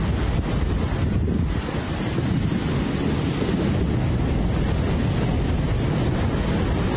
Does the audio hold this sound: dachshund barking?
no